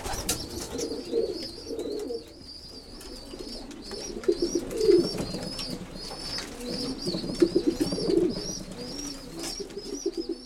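A crowd of pigeons in a loft coos steadily, their low throaty calls overlapping without pause, while faint repeated chirps flicker above the murmur.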